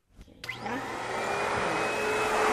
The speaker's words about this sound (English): She's practically dwarfed by the giant vacuum cleaner she straps onto her back. I went on the job with her one night as she cleaned offices in Bakersfield.